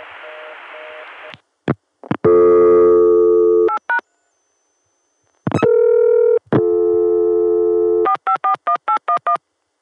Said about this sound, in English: Let's do another, starting with the Chicago dial tone via 454.